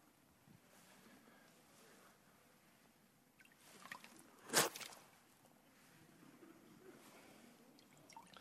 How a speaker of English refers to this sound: I got water all over the stage up here.